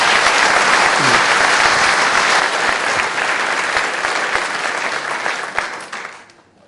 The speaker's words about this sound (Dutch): Dankjewel. Nou, geef er nog een applaus.